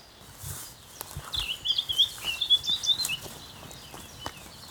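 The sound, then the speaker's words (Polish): An excited female cuckoo gives a high, bubbling, vibrating trill: a rapid run of liquid notes lasting about two seconds, clear above a soft background hiss, with no one speaking. “Do tego kukułki, gdy są podekscytowane, rozentuzjazmowane, jeszcze wydają takie charakterystyczne wibrowania. Wysokie, coś w tym stylu.”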